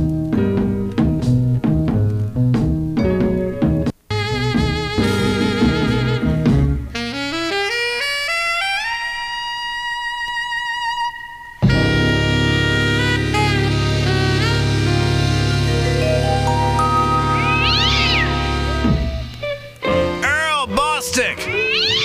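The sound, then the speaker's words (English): A saxophone-led jazz instrumental plays loud, with slow, sultry melodic lines, long sustained notes and smooth rising slides over a steady band backing. “Man, you've got alto sax versus tenor sax.”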